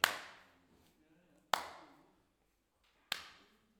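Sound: rhythmic hand clapping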